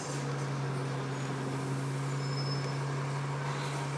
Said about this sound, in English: some bus ambience, complete with squeaky door and someone's annoying headphones going tss, tss, tss, tss, which I don't know if you can hear. I'm gonna listen back now and find out. This bus is a bit late, so it's kind of bedawinging along.